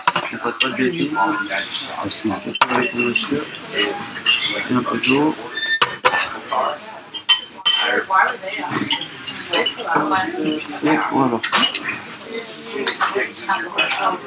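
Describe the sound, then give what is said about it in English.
Cups, saucers and cutlery clink and rattle repeatedly as coffee is served at the Café de Flore, sharp little taps scattered through a busy café hum, with voices murmuring underneath. “The coffee's arriving.”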